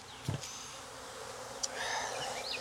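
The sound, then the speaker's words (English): Honeybees buzz steadily around an open hive as a beekeeper places frames and covers nurse bees, a continuous drone with a few brief knocks and rustles of handling mixed in. “And I'm going to cover up these nurse bees for my virgins.”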